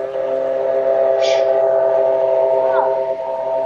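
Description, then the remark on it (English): An airplane passes overhead, making a loud, steady droning hum with layered tonal pitches that holds unbroken for the whole few seconds, a brief brighter hiss rising briefly partway through. “Yeah, do you have an airplane flying overhead?”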